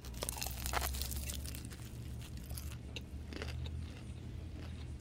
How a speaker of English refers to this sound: All right, I'm going to try the egg roll first.